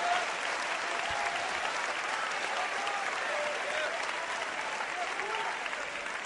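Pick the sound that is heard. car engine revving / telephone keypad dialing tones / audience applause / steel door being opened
audience applause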